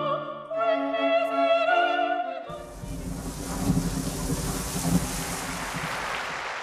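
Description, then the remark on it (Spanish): A brief sustained melodic tone gives way to a steady, full hiss of falling rain during Pope Francis's Wednesday general audience, with low rumbles of thunder rolling underneath a couple of times. “La lluvia no consiguió cancelar las ganas ni disminuirlas de los fieles y peregrinos que acompañaron al Santo Padre Francisco durante su audiencia general el pasado miércoles.”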